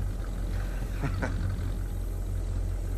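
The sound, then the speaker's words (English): An old truck's engine in a garage rumbles to life with a couple of quick sputtering catches, then settles into a steady, low, throaty idle. No one speaks. “He's surprised when the car starts.”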